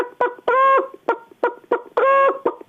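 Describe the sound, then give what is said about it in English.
A voice imitates a hen's cackle after she has laid an egg: a run of quick, clipped clucks broken twice by a longer, drawn-out squawk, loud with no other sounds around it. “Then after she's laid her egg, she cackles like this.”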